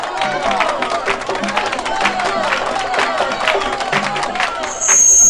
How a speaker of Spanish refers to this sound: ¡Y el aplauso para la comparsa El Palmarito!